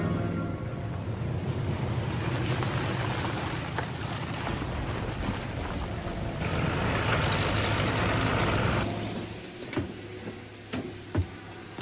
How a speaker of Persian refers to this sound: این ماشین بذر را از آشغال جدا می‌کند تا بتوانان را برای کاشت سال آینده ذخیره کند. این از وسایل بومی متعلق به قرن 18 و مونسانتو همه را از رده خارج کرده.